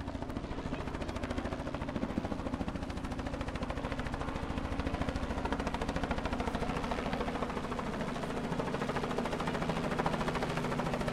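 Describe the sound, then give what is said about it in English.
A helicopter hovers overhead above a crowd of about 300 or 400 people, opening a box in its side to drop sponge balls: a loud, steady rapid chop of rotor blades over a deep engine drone, continuing without a break and with no voices. “The helicopter's just about over us now.”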